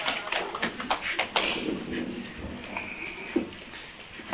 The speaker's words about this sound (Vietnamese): Rồi, xin quý vị cho một tràng pháo tay nồng ấm.